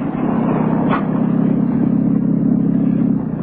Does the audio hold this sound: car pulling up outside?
yes